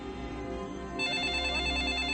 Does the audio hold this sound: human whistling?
no